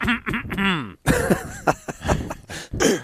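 A man clears his throat, starting with a drawn-out voiced hum that slides in pitch, then several rough, raspy bursts and gruff hacks in quick succession.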